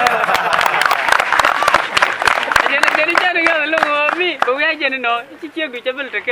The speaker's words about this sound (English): But I know why you're clapping. Because all of us will be the bride of Messiah.